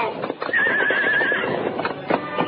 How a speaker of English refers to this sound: Finally, the horse started downhill. Then, without warning, the animal lost its footing.